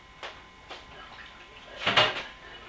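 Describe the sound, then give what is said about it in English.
The bottom drawer of a small white bookcase, now full of tapes, slides and bumps shut, with two light knocks followed by a louder scraping thud near the end. “the bottom drawer you can put things in”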